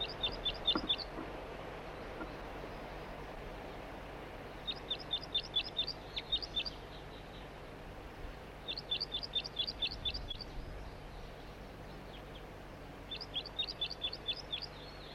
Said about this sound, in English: It's recording the same bird. It's not a red male. A juvenile. Does not appear to be banded.